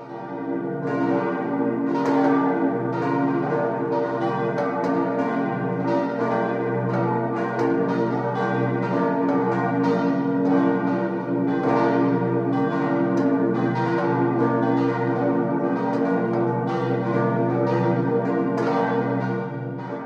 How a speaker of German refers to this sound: Glocken läuteten die Weihnacht ein.